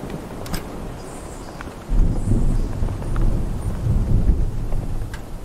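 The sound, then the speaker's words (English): Steady rain hisses throughout, with a deep rumbling swell joining after a couple of seconds and lingering to the end, like thunder rolling beneath the downpour. No one speaks. “Come on in out the rain, then.”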